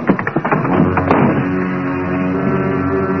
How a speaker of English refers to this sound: Half a dozen bullets smashed through the window.